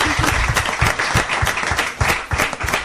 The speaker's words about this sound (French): Moi, je voudrais juste qu'on applaudisse les anges gardiens, voilà. Parce qu'ils sont au top.